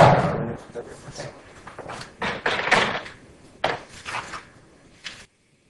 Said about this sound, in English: Can you please close the door? Thanks a lot.